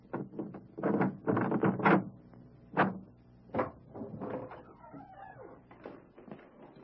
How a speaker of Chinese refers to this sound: 请问亚历马泰的约瑟先生在家吗？ 嗯，是的，在家。我来开门。